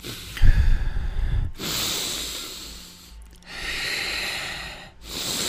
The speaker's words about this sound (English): 5 deep breaths through the nose now. Ready.